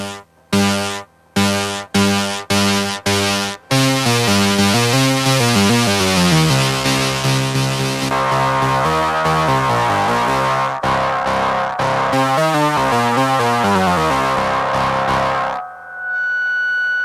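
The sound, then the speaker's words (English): A gritty, distorted MFB synthesizer played through a Wasabi distortion pedal opens with six sharp stabbed chords, then sustains into a loud, buzzing stream of shifting harmonic tones that swells into a piercing, high-pitched feedback whine near the end. “Yeah, so that was the MFB on its own, and now what I'll do, I'll play some sounds from the MFB, but through a range of guitar pedals. And first up, we've got a Wasabi distortion pedal.”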